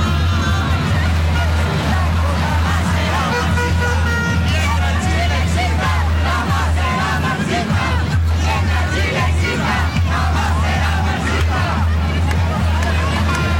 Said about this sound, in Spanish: Entonces, de estos gritos de la gente a la espera de el discurso de José Antonio Kast,